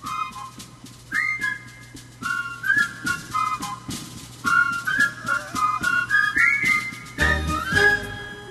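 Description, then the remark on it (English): A transition bumper: a whistled melody of short, bright phrases rising and falling over a steady low hum, ending with a brief louder burst and a few final whistled notes; no one speaks. “No, it's a bumper.”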